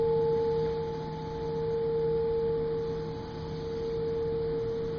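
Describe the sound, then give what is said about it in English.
A meditation bell rings with a sustained tone, humming steadily with a clear mid-pitched note and softer overtones, gently swelling and fading in volume over a faint hiss, with no voices. “Let each ring of the bell deepen your sense of relaxation and ease.”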